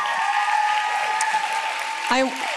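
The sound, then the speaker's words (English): Steady, dense applause from a standing audience for two women guests who came from Orange County fills the whole stretch, with a sustained tonal hum running beneath it and a short voiced cheer rising out of the clapping near the end. “Yes, we can stand and clap for these beautiful ladies.”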